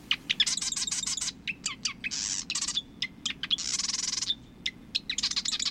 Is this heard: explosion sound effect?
no